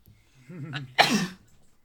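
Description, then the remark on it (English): A single sneeze from a person who is sick: a quick, voiced intake of breath builds up, then a sharp, loud, breathy burst that fades within about a third of a second. No talking. “Bless you.”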